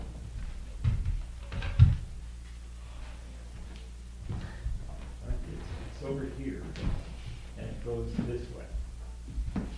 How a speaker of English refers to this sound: Remember the door? I'll open the door for everybody.